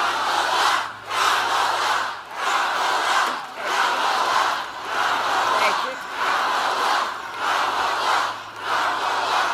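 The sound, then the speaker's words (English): A large crowd at one of Kamala's rallies chants "Kamala" over and over in a steady, loud rhythm, each repetition landing as a roaring burst with brief dips in between. “The clip is going to start with you're going to hear the crowd chanting, Kamala, Kamala.”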